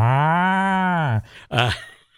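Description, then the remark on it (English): A human voice imitates a cow, giving one long, loud, steady moo followed by a brief, rougher second moo-like burst after a short pause. “That's my best cow sound there.”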